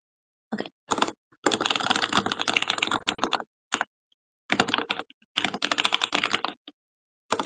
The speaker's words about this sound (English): I'm just gonna type it out because I like typing.